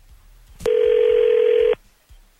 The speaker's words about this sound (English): If he picks up, answers the phone, hopefully he'll come on with us and tell us the reason why.